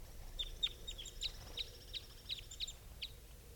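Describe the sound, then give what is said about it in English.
Calls of two caged birds: a series of about nine short, high-pitched chirps repeating at a fairly steady pace, moderately quiet over a low background rumble, with no talking. “And these are the calls of these two.”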